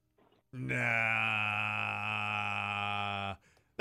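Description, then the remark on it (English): A voice imitates a tipsy person's babble: one loud, drawn-out slurred groan held steadily for about three seconds, then cut off abruptly. “That's what the babble. Is that a tipsy person or a toddler? Tipsy.”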